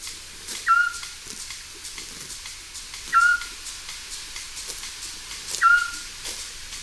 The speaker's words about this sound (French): Alors du coup, on va passer du côté des hiboux, en commençant par le petit duc Scops.